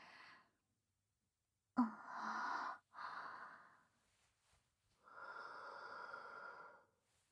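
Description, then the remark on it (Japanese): Three close, airy breaths are blown right at the listener: a sharp first puff, a shorter second, then a long steady exhale, separated by near-silent pauses and with no talking. “私のいやらしい吐息を吹きかけられるだけで興奮した。”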